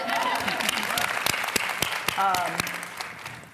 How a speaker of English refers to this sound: The Dallas Diamonds, which was one of the best franchises in the history of women's football, four Super Bowls storied here in Texas football. That's right, y'all can clap for that.